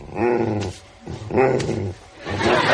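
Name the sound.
dog barking and growling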